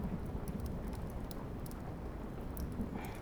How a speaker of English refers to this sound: It's starting to rain. You know, I remember you were always scared of storms.